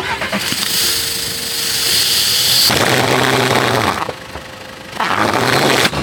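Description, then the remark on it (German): A car engine is started, cranking and catching, then roaring in two loud, rough bursts of revving separated by a brief lull, as an exhaust attached to the car falls off completely. No one speaks. “Und ich hoffe, dass es jetzt funktioniert, dass das Auto jetzt zu einem richtigen Sportauto geworden ist. Wir machen einfach mal an.”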